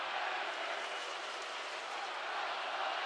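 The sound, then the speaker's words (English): A large basketball arena crowd, including Gopher fans, chanting and roaring together during a Wisconsin game, a dense, steady wall of voices that stays loud and unbroken throughout, with no single speaker standing out. “And now it gets a little spicy in the crowd.”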